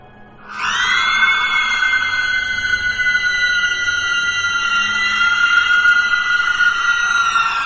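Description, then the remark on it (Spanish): A woman lets out a long, piercing scream that starts abruptly and holds at a steady, shrill pitch for several seconds, loud with no other sounds. “La mujer se retorció y contorsionó, echó la cabeza atrás y gritó.”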